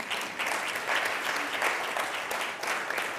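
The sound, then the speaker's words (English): An audience breaks into steady applause for members of the UU Church in Bloomington, a dense crackle of many hands clapping at a fairly even loudness throughout, with no voices rising above it. “Everybody clap for them.”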